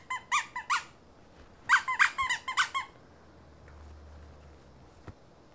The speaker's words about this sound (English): The doggy doesn't squeak. Just the horse squeaks.